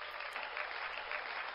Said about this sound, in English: We are all cheering for you. We are hitting the yay button.